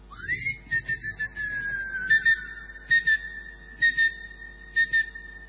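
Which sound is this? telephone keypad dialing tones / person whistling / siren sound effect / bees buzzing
person whistling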